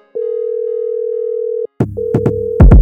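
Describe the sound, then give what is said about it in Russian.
A steady telephone tone hums alone for over a second, cuts off, then sounds again as punchy drum hits and bass thuds come in over it. “Я вишу на телефоне, что гудок или твой голос.”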